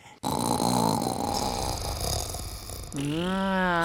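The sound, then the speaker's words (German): A person imitates loud, exaggerated snoring as a joke, with a rattling, throaty inhale followed by a rising, wavering nasal whistle toward the end, with no one talking. “Was ich ganz am Anfang der Sendung zum Spaß gemacht habe.”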